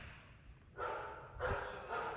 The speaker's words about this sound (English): Dog, right?